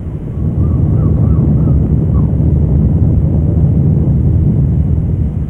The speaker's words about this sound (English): This is what the Mersey Sound used to be, the cry of gulls and the rumble of a ship's engine on the Mersey River, a wide estuary leading to the deep sea port of Liverpool.